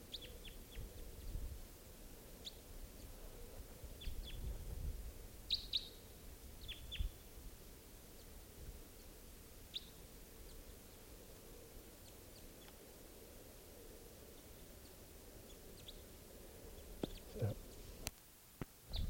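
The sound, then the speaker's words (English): A pair of wild birds, one on net wire and one up in a tree, give short, high chirps in scattered bursts, some in quick pairs and triplets, over a steady low rumbling background, with a few sharp clicks near the end. “Just rushed those birds, missed them.”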